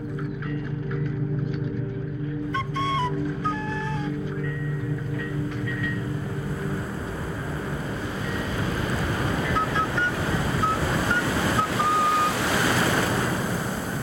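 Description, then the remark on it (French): Steady rush of wind and surging waves of a strait fills the scene, loud, with a low engine-like hum early on and faint whistling tones drifting through. “Les vagues du détroit, la brise dans les mains.”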